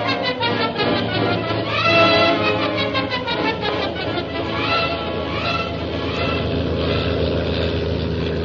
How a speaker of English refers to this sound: Meanwhile, Shanghai Lil's plane carrying Jim and Kolo roars on along the China coast.